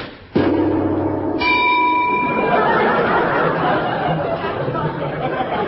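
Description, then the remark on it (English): A sharp rifle shot cracks out, and a moment later a bright metallic ping rings off a floating mine, sustaining briefly over a steady wash of background noise and murmuring voices. “Lummy, one bell and all's dead dangerous. Are you sure you haven't got that bullet on a piece of elastic, Chief?”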